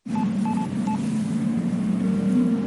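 Telephone dialing tones of a call placed from Columbia Heights metro station to ask for directions: a few quick electronic beeps in the first second, then a steady held tone begins, all over a constant low hum.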